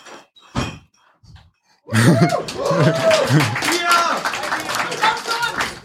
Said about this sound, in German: Applaus für euch, genau.